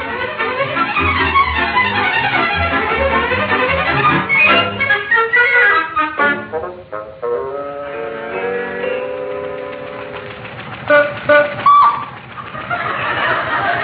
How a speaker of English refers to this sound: The old car's running like a charm, isn't it